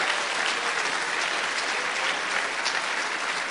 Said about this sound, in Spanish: Un aplauso al Señor esta mañana.